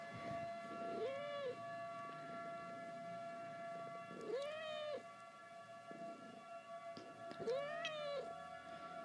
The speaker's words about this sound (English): You're alright, baby kitty. My kitty's freaking out. It's okay. She's scared. The noises. It's okay.